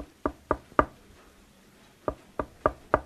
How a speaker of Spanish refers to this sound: Por aquí ya van y tocan otra vez en puerta.